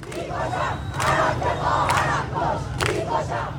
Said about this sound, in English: People were yelling things like, I don't want my headscarf, and, you know, they want death to the rulers there.